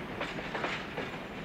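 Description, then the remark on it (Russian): A train rolls steadily along the rails, its continuous rumble broken by rhythmic clacking bursts from the wheels. The sound is even, with no voices. “Нравятся поезда?”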